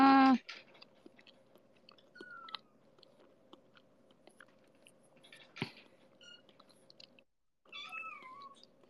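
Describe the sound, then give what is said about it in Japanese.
A cat meows loudly at the start, then gives a softer, falling meow near the end, with faint chewing and small clicks between the calls. “こういう猫との会話は猫界あるあるだったのか、なんか、こよりの姿を見て、こういうもんなんやなーって、なっておる。”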